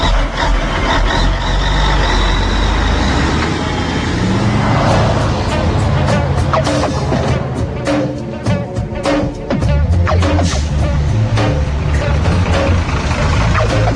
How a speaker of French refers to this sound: mais au ras du sol, très concrètement, il y a trois camions italiens qui viennent de passer. Il y en a un quatrième qui passe, un cinquième derrière.